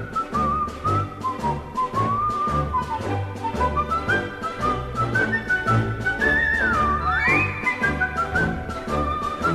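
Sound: whistling melody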